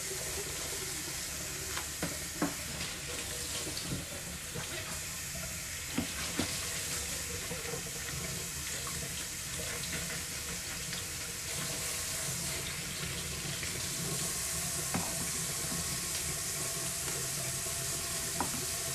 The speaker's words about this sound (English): I'm going to get, since it's just for me, break off like 3 leaves, put it in our colander, and then we're going to just rinse it under some cold water for a minute.